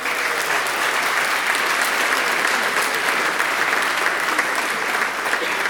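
A crowd claps steadily for several seconds, a dense, even wash of many hands with no breaks and no voices on top, a round of applause for the person currently in first place in a competition standings.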